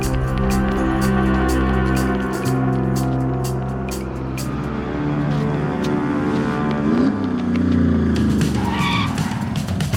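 A car engine roars loudly and steadily, its pitch climbing as the vehicle pulls away, with a brief tire squeal toward the end. No one speaks.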